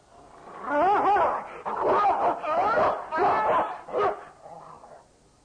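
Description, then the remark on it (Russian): A dog barks and snarls ferociously as it mauls Negoro to death, as in Jules Verne's novel: a loud, frantic burst of growling and yelping that runs for several seconds with only brief breaks, like an animal in attack. “Конечно, конечно, капитаны, давайте запихнем его на 502-ю страницу романа, его загрызла собака.”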